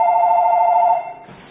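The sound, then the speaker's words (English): A telephone rings once, a steady, slightly warbling electronic tone that holds for about a second and then cuts off, leaving faint background hiss. No one speaks. “It's a phone, nowhere else.”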